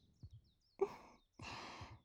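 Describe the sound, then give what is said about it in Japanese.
Soft, muffled low thumps in a lub-dub rhythm like a heartbeat, partly covered by two stretches of breathy, rustling noise. “ドキンドキンっていう心臓の音。”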